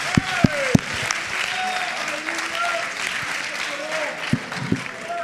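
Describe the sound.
Crowd clapping steadily throughout, a dense patter of many hands with a few sharper, louder claps standing out, plus faint tonal voices or cheers rising above the applause.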